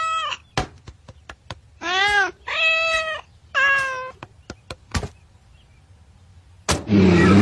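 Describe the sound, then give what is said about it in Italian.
A cat meows three times in quick succession, fairly loud, with sharp clicks and knocks scattered around it and a short burst of rushing noise at the very end. “Dobbiamo bruciare tutto quello che il gatto ha toccato prima che il virus ci renda paranoici.”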